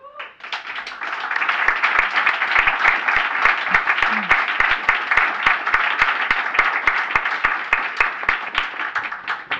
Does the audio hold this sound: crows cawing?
no